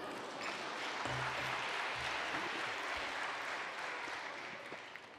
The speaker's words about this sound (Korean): 동의하시는 분만 박수.